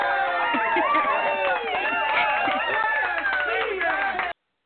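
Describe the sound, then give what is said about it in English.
A crowd cheers loudly as a guest is brought onto a show, with many overlapping whooping voices and scattered clapping mixed in. The sound stays steady and full for about four seconds, then cuts off abruptly. “All right, crowd gets a little ornery.”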